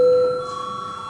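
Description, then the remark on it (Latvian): A steady electronic bell tone sounds alone for about a second in a parliament chamber, a bright sustained chime that starts loudest and then holds slightly softer without pause, signalling the start of a vote. “Paldies, lūdzu zvanu.”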